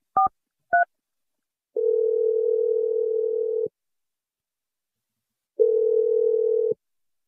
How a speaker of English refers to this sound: We're going to dial James's phone number right now. Here we go.